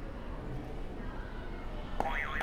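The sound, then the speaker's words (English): Faint room noise, then a sharp click as a game buzzer button is pressed, followed right away by a short, wobbling electronic boing-like tone near the end. “All right, you can go ahead and hit another buzzer for me.”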